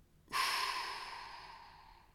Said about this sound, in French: Inspirez profondément par le nez, soufflez fortement par la bouche